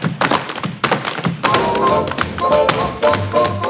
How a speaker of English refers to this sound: This is the tap dance scene from Singing in the Rain's